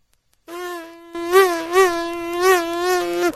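A steady, high-pitched insect buzz drones on its own, starting thin and then swelling louder, its pitch wavering up and down in a few slow surges like a bug circling in flight.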